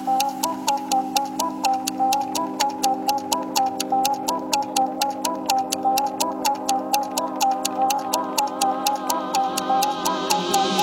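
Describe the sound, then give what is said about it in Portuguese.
Steady, evenly spaced clock ticks click throughout, sharp and prominent, layered over a sustained electronic drone and a wavering melodic tone, with no voices. “Tic-tac no relógio bate, já bateu?”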